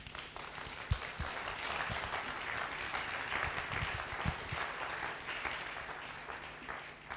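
An audience applauds the French company Ieto after their performance at the 32nd London International Mime Festival, at the start of a post-show discussion, a steady, dense wash of many hands clapping at a fairly even level, with a few sharper individual claps standing out and no talking.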